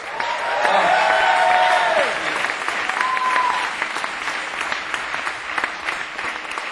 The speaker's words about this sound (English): Another half-hearted round of applause, please,